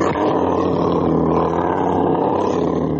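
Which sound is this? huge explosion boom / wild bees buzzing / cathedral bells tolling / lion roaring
lion roaring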